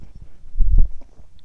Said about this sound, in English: Another sip.